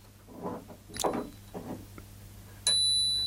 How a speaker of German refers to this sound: Frage dazu, benutzt du die Klingel? Das würde mich mal interessieren. Benutzt du deine Fahrradklingel? Weil da habe ich schon ganz unterschiedliche Reaktionen damit hervorgerufen. Ich benutze die Fahrradklingel. Fahrradklingel, ja, mal eine.